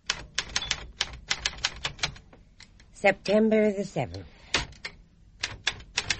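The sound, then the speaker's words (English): Rapid, crisp keystrokes on an expensive typewriter clatter in uneven bursts, with a carriage-return ding and slide in the middle, while a man speaks briefly over the typing. “Good clothes, good teeth. Expensive typewriter.”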